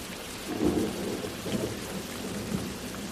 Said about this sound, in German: Max steht am Fenster und schaut hinaus in den Regen.